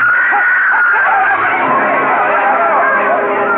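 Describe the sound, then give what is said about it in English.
A dense wedding crowd on a street chatters and shouts all at once, a loud, steady hubbub of many overlapping voices with a woman's shrill screams rising above the din. “The scene of gaiety suddenly changed. Yu Lang and the groom stiffened and crumpled at the screaming Nanhua's feet.”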